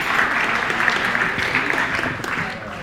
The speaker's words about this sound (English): Let's give the dads a clap. Let's give the dads a clap. Thank you.